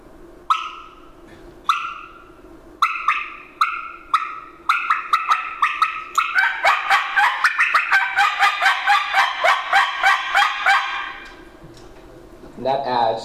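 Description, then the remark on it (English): Turkey call yelping, played with the tongue moved to the side of the call: a few spaced, raspy two-tone yelps, then a fast, loud, steady run of rhythmic yelps for several seconds, and a brief voice afterward. “I move my tongue to the side and I go whip, whip.”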